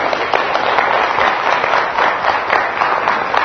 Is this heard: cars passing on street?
no